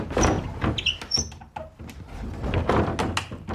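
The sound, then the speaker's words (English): An old wooden door, over 100 years old, rumbles and scrapes as it slides open, with creaks and knocks over a few seconds, fairly loud. “That door operates, no bother at all, it's over 100 years old.”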